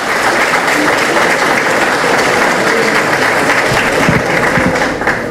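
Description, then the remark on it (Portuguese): Sustained audience applause at the presentation of a plaque in homage to former mayor Antônio Goulart Marmo, a dense, steady wash of many hands clapping at even loudness for several seconds without any talking over it. “Uma salva de palmas para ambos, por gentileza.”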